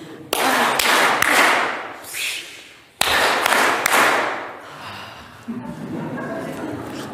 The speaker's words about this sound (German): so machen wir jetzt den Cola Clap. Der funktioniert so, wir klatschen 3-mal in die Hände, dann öffnen wir die Dose, dann klatschen wir wieder 3-mal in die Hände und dann nehmen wir einen Schluck Cola.